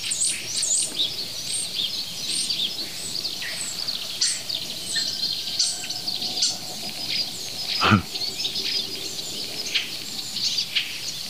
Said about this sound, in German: Ja, was für ein Wasservogel war das eben.